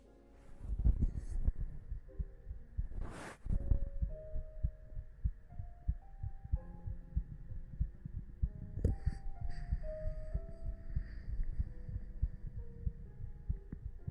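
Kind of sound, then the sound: human body sound, heartbeat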